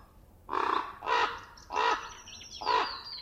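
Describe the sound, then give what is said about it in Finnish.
A bird gives four harsh, raspy caws in a steady sequence, each call loud, with a faint high thin tone lingering in the background and no voices. “linnut muodostaa pääosan ääniraidasta.”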